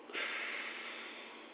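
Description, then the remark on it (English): A single forceful exhale blown out through one nostril while the other nostril is held closed, during a breathing exercise: a steady airy rush that starts abruptly and slowly tapers over about a second and a half, with no talking. “Hold the other nostril, blow it out.”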